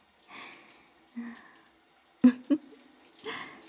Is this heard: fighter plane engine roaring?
no